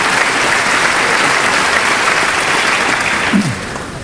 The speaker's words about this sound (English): who is at the microphone and appears ready to begin, acknowledging the applause with waves to the legislators who are assembled in the House chamber. Many of them, if not all, standing to applaud and greet him.